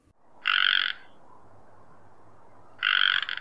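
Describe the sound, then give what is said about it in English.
A male frog gives two loud, raspy non-breeding croaks about two seconds apart, each lasting around half a second, over a soft background hiss. “Males make another non-breeding call, which is a simple croak.”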